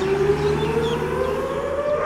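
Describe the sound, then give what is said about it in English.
A loud, sustained air-raid siren wails steadily with a slowly rising tone, sounding for Memorial Day in Israel, with no voices present, only a faint ambient hum beneath it. “A siren sounds each Memorial Day, and for 2 minutes, much of Israel halts to reflect on lives lost.”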